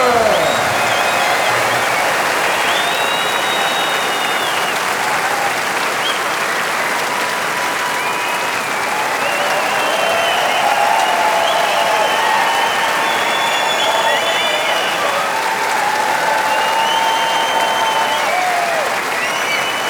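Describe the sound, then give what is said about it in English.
Sustained, loud applause from a large concert audience for a band fills the whole stretch, a dense steady wash of clapping with faint tonal sounds and cheers drifting through it. “Give them an enormous applause here on …!”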